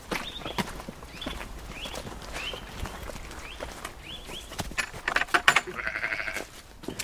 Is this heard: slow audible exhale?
no